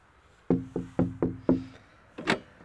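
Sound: knocking on a door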